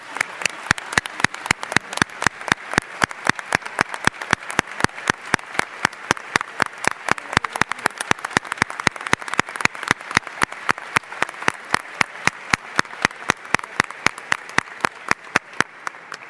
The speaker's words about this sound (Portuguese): Uma salva de palmas para ele.